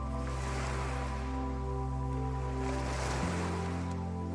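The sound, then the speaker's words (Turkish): A steady, continuous wash of ocean surf fills the scene, rising slightly in places, with a low sustained hum underneath and no voices. “Uçsuz bucaksız denize, ona akan, dökülen nehirlere bak.”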